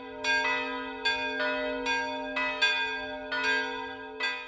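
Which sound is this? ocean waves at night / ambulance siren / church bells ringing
church bells ringing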